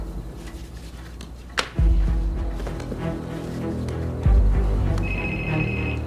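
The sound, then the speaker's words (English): A telephone starts ringing near the end with a steady electronic tone, after a sharp click and a couple of deep, heavy thumps against a low background rumble. “You gonna answer your phone?”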